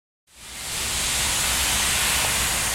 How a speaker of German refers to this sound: Dichter weißer Dampf quillt aus einem der vielen Schornsteine auf dem Werksgelände von BASF in Ludwigshafen.